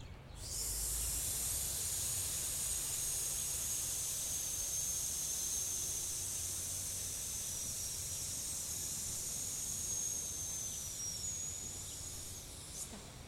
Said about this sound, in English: Once again. One, two, three, suspend, and hiss.